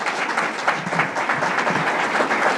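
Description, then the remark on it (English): Steady audience applause, a dense wash of many hands clapping at an even, fairly loud level throughout, with no voices rising above it. “Let's give him a round of applause as well.”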